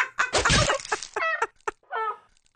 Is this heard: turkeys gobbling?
yes